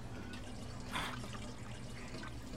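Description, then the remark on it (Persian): Two liters of water pour steadily from a 5-liter glass jar into a 3-liter glass jar, a soft continuous trickle with a brief brighter splash near the middle, fairly quiet and heard alone without any voices. “حالا 2 لیتر آب وارد شیشه 3 لیتری شده که 1 لیتر دیگه برامون باقی میذاره.”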